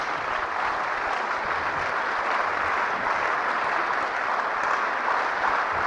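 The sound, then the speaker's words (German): An audience claps steadily for several seconds, a dense, even wash of many hands with no breaks, staying at a constant loudness throughout, with no voices over it. “Ja, meine Damen und Herren, ich sehe aber Applaus, dass Sie da Freude dran haben.”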